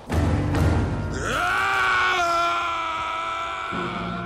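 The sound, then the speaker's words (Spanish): A single long scream, rising sharply in pitch and then held for a couple of seconds before fading, preceded by a brief rough, groaning vocal sound; the scream comes from a valley that an avalanche has swept through. “Cuando Mulan estaba arreglando sus cosas para volver a su casa, oyó un grito que provenía de la zona del valle que el alud había arrasado.”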